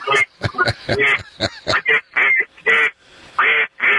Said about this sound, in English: I'm parked in my driveway, so I'm safe to be able to blow my duck call.